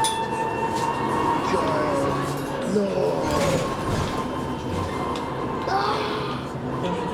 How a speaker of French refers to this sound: Ça fait longtemps que j'ai pas pris le bus, hein. Ça fait longtemps, hein.